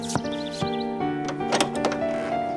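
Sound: balcony door being opened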